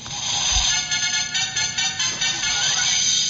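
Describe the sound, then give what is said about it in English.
A game show buzzer identifying one of the players gives one loud, continuous, harsh electronic tone that holds for about three seconds, wavering slightly in strength, with no talking over it. “Each of our players will be able to be identified by their different buzzers.”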